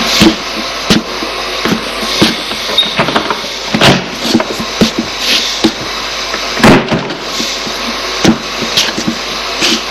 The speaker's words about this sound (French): Au 2e étage, elle ouvre une porte.